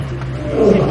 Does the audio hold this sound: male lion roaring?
yes